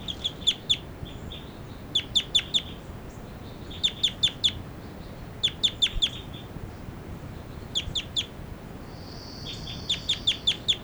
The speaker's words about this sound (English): This is bird 40. Giving flight calls.